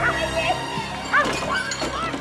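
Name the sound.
dog barking and yipping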